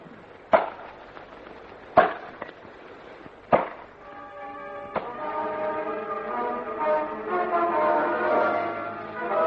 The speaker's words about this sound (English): Chopping continued until both the axes were very blunt and just about everybody in the camp had calluses and blisters on their hands.